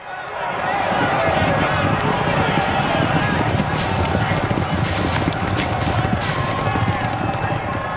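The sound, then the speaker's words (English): Many galloping racehorse hooves thunder in a dense, continuous rumble throughout, loud, with a roaring crowd and excited voices mixed underneath, at the 1995 Grand National horse race. “Here's a recording of the 1995 Grand National.”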